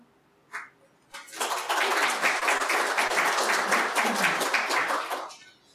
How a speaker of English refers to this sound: Don't clap. You haven't heard what I have to say yet.